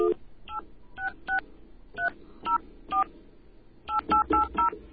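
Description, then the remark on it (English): Touch-tone phone keys dial the SpoofCard service number: about a dozen short two-note beeps, spaced irregularly at first and then a quick run of four at the end, over a faint background hum. “All right, there's our dial tone. We're going to call the number now.”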